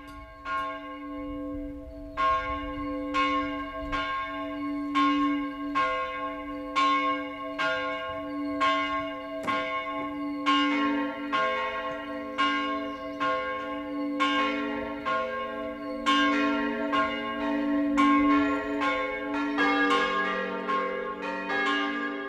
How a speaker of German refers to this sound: Es ist 12 Uhr. Das Mittagsläuten kommt heute von der katholischen Pfarrkirche St. Johannes Evangelist in Astheim in Unterfranken.